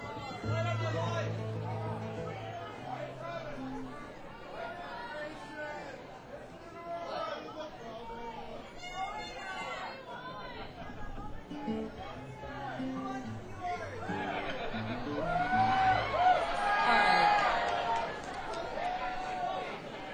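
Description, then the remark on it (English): A dense crowd chatters continuously, many overlapping voices forming a loud babble that swells louder toward the end, with occasional shouts rising above the din. “Crowd is getting unruly.”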